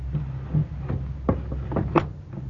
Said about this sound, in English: Yes, child. Go bolt the door.